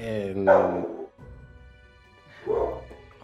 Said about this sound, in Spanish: Vaya con el perro. Bienvenido, perrito. Se llama Thanos, por cierto.